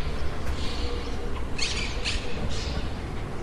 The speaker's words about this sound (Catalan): Si aquestes setmanes heu sentit ocells i també la tele del veí, és perquè sense vianants ni vehicles al carrer i amb les botigues i els bars tancats, el nivell de soroll a les ciutats ha baixat en picat.